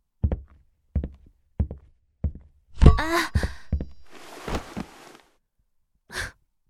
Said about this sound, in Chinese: 哎，我刚刚踢到了抽屉柜的尖角，好疼啊！